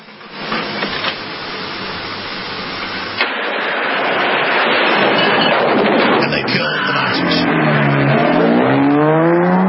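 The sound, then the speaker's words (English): A car engine roars as the car pulls up to an outdoor cafe, rumbling loudly and continuously before revving higher, its pitch climbing in steady surges toward the end. “Car pulls up to the outside cafe.”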